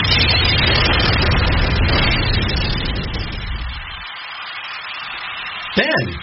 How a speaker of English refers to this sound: what was that noise? It sounded like an explosion.